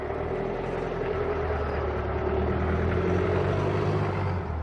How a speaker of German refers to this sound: Warten wir vielleicht mal eben kurz, lassen wir eben mal das Auto vorbeifahren.